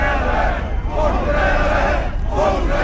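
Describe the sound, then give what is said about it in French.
A crowd of a few hundred Nazi militants shouts "traître" (traitor) together in loud, continuous unison. Their voices swell in repeated waves with brief dips between chants and no lull in the noise. “Traître, hurlent les nazis qui ne sont que quelques centaines, loin du millier de sympathisants qu'ils espéraient rassembler”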